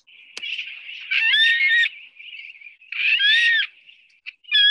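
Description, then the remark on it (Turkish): A frigatebird calls in repeated nasal, warbling bursts around a steady buzzing tone, with rising-and-falling whistled notes and a sharp click near the start; loud and alone, no talking. “Adı neydi bu kuşumuzun? Fregat kuşu.”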